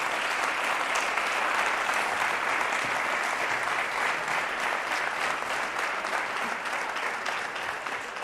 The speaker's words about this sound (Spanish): Ese primer fuerte aplauso para él